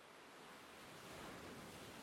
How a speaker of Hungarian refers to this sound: A hullámok hangja megnyugtat.